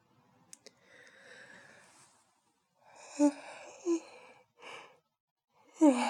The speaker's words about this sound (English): You're saying the word sleep made me yawn.